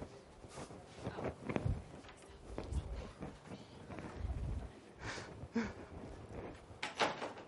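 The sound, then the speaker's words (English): A door opens and shuts with a few dull knocks and rattles amid shuffling and rustling, as if people are filing in; faint indistinct voices murmur in the background. “Just use this door, guys. Just use it right here.”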